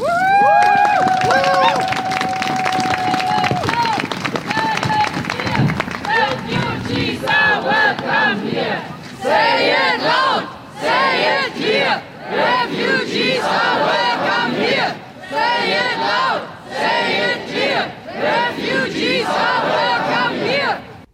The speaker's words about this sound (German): So klang es am Samstag, den 31. Januar in der Erfurter Innenstadt. Mehrere hundert Menschen, die demonstrierten unter dem Motto gemeinsam für eine solidarische Asylpolitik.